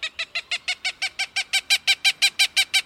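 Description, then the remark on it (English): A Cooper's hawk gives a rapid, steady series of harsh, nasal cackling notes, about sixteen evenly spaced calls that grow slightly louder, clear with no talking. “Their big, bulky mates can easily hunt and kill pigeons, and it's usually female Cooper's hawks that are seen flapping stiffly through the skies above the concrete jungle.”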